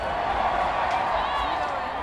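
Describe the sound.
A steady, dense wash of festival crowd noise at the main stage of the Capitol Hill Block Party in Seattle, with overlapping chatter and murmuring voices, holding at an even loudness throughout, with occasional faint claps or thuds mixed in.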